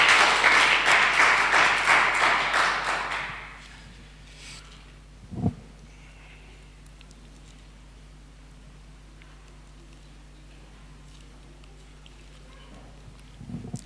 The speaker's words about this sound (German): Einen Applaus und gibt ihnen alle Ehre.